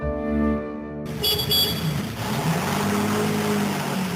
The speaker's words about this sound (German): Mit dem Auto.